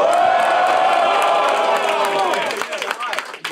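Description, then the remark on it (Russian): A loud crowd cheers and whoops as the third round of a battle is announced, a dense, sustained roar of many voices, with high yells sliding up and down, then thins out into scattered shouts toward the end. “третий раунд, дайте шума.”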